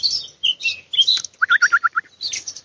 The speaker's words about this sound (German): Das sind Brombeerranken und das sind viele Vogelbeerbäume, alle auch recht klein. Und die ganze Zeit sind hier die Mönchsgrasmücken um mich herum unterwegs und singen.